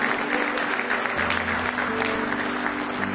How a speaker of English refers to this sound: Give the Lord one more hand clap of praise if you love him tonight.